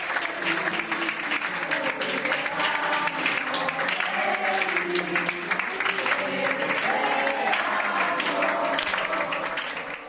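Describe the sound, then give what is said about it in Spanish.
Steady, dense applause from hospital staff fills all ten seconds, with several voices singing happy birthday together over the clapping at a lively level, as a patient leaves Gregorio Marañón hospital in a wheelchair on being discharged. “Elsa ha salido en silla de ruedas, emocionada, y entre los aplausos de los sanitarios que le cantaban cumpleaños feliz”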